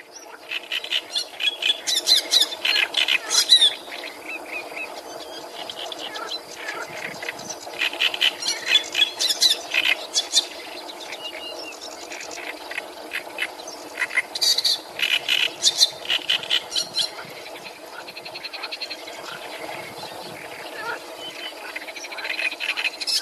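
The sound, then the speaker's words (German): A loud, harsh, deep great reed warbler song of grating, croaking phrases repeated in rhythmic bursts, with no talking over it. “Das ist ein sehr tiefer Gesang, dadurch, dass er größer ist oder größere Syrinx und kann tiefere Frequenzen singen.”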